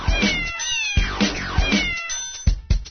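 A cat meows repeatedly, about four or five drawn-out, wavering cries in quick succession, loud, with no talking.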